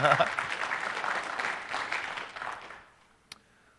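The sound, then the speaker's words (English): A burst of applause, dense crackling clapping that holds steady for about two and a half seconds, then tapers off into near silence, followed by a single faint click. “Yes, applause now.”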